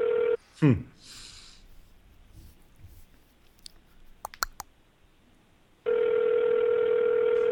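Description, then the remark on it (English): An outgoing Skype call's ringing tone: a steady, buzzy electronic tone plays briefly, falls silent for about five seconds of faint clicks and a quick swooping chirp, then resumes loud and unbroken. “It's ringing.”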